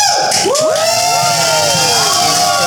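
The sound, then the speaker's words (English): A live audience of about 300 or 400 people at a live taping cheers loudly, many voices whooping and shouting together in a sustained, bright roar with rising and falling high-pitched yells, no one speaking clearly. “You hear everybody in the background. Here for it. We have a nice crowd.”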